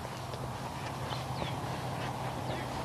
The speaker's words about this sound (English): A duck. How odd. Don't usually hear ducks take off from this neck of the woods. This is a little pond, a little puddle.